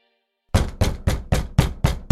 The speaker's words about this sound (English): He hears the sound of someone's fist banging against his front door.